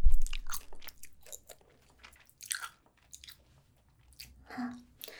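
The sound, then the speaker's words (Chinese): Chewing with irregular crunchy bites as a teacher chews a fast-acting cold remedy, several moist mastication bursts spread across a few seconds with short pauses between, fairly quiet and with no talking. “老师刚刚本来也有一点点小昏小昏的，嚼了几口之后，我也感觉，整个状态好多了呢。”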